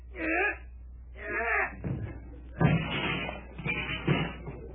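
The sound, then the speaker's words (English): A stuck house door groans with two long, loud creaks, then scrapes and bumps as it is pushed open, ending in a flurry of rattling knocks. “I guess we can get through the door all right. Just help me push it a little.”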